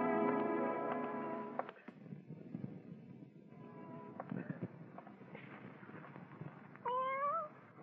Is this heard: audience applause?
no